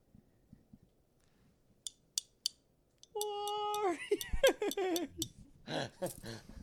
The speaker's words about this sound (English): Sorry, I need to do one more. I had to clink that bottle.